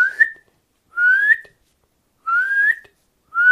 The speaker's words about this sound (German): Und wenn bald der Gesang komplett verebbt, ist das Einzige, was bleibt von der Nachtigall, ihr lauter Kontaktruf, der auch zu einem Warnruf werden kann, ihr lautes.